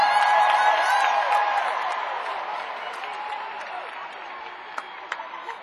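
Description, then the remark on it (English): A concert crowd in Corpus Christi roars and applauds as a band member on percussion, drums and vocals is introduced, with sharp whistles cutting through a dense wash of clapping and cheers that gradually fades over several seconds, a few isolated claps near the end. “You're going to give them a big Corpus Christi roar.”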